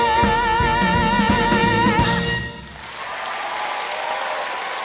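A sung, sustained musical ending gives way to steady applause from a large live audience at the Arcata Theater in Chicagoland, a dense wash of clapping that continues to the end without any talking.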